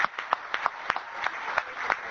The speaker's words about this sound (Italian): Facciamo un applauso, bravi!